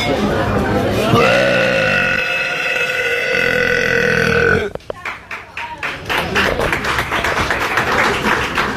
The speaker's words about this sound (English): After this guy burps, he's sitting in a restaurant. Okay. And he just cuts loose with the best carbonated beverage burp